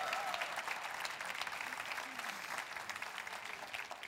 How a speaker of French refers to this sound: Je veux dire à toutes les femmes enceintes, et tout le monde dira « Amen » et applaudira, « Vous brillez! » Voulez-vous applaudir les femmes enceintes?